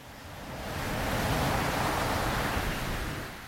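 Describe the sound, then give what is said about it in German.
A broad, steady wash of surf swells up and slowly recedes as a wave rolls in and breaks on the shore, a soft hiss with no voices. “Das Rauschen und der Geruch des Meeres zogen mich magisch an. Die heranrollenden Wellen wirkten als beruhigender Klangteppich.”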